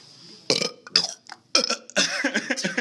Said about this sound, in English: That was like a burp, throw up, burp thing.